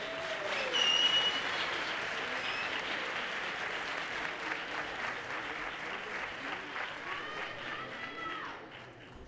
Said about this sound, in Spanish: Fuerte aplauso para Estamos Perdidos.